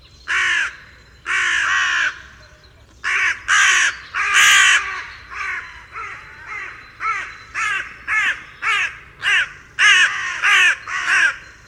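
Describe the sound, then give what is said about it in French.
Loud, harsh cawing from a carrion crow, a long series of raspy calls, starting with a few drawn-out caws and then settling into a rapid, regular run of shorter ones. “Sa voix est assez désagréable pour notre oreille humaine. On ne peut pas parler de chant chez les corvidés, mais plutôt de cris assez divers associés au rapport entre individus.”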